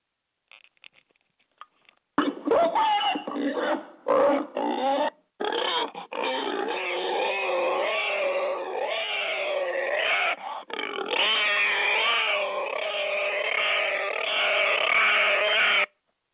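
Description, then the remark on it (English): A pig named JJ, in a studio, grunts and oinks loudly and almost without pause for about fourteen seconds, after a couple of brief quiet snorts at the start. “And in studio also, along with James today, just sitting there very, very quietly, is JJ the Pig.”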